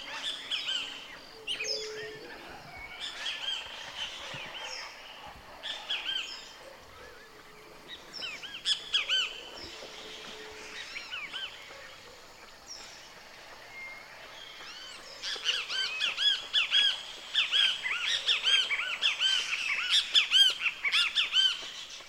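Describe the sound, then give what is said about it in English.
A great kiskadee sings from among tree branches in spring, calling in repeated, insistent bursts amid a busy chorus of chirping songbirds, the high, harsh notes swelling louder and denser toward the end. No one speaks. “And there, among the branches, a great kiskadee is singing, the most conspicuous voice in the songbird chorus.”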